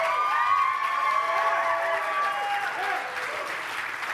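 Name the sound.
audience clapping and cheering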